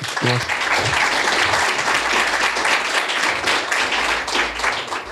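Sustained audience applause, a dense steady wash of many hands clapping at even loudness for several seconds, with a brief voice heard at the very start.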